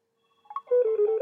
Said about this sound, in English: and then like any phone, it's going to take a little time to power on. When it does, you'll hear it make a little beeping noise, and it'll speak the time. We're waiting for that now.